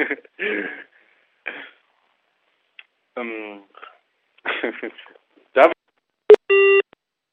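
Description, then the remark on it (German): A few throat-clearing and vocal noises, then a sharp click and a short, steady electronic beep, the tone a conference call plays when a participant leaves. “Oh, da verließen Sie die Telefonkonferenz.”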